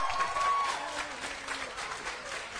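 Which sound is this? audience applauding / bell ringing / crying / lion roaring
audience applauding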